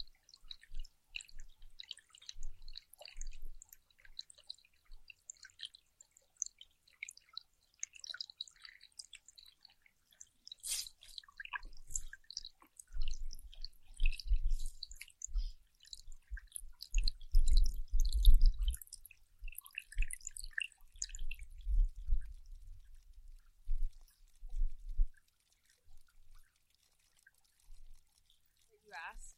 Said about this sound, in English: Water sounds. Yeah, there's some water sounds.